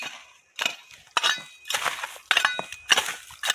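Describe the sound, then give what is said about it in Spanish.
A hoe chops into earth again and again, about six steady strokes, each a gritty scrape with a faint metallic clink as the blade hits stones, digging a furrow to carry irrigation water to a vegetable garden. “Esto es una azada o un sacho. ¿Para hacer qué? ¿Qué estabas haciendo? Un surco. Un surco para regar.”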